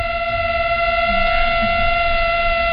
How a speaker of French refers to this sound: Des moustiques amoureux. Et le plus fort, c'est qu'on peut même les écouter chanter, enfin j'exagère un peu, sur le blog de Nature. Quand ils sont amoureux, les moustiques, et ben en gros, ça donne ça.